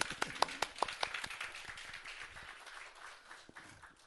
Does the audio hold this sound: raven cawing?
no